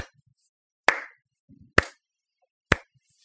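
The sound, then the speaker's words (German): Three sharp hand claps, evenly spaced and fairly slow, each a crisp, bright smack that fades quickly, with silence between them and no talking. “Plötzlich klatscht es aus der Ecke des Raumes.”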